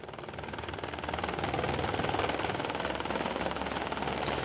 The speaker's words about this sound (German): Wir sind mit dem Helikopter von Lauterbrunn am Morgen um knapp vor dem 7. Uhr losgeflogen. Das Wetter ist gut.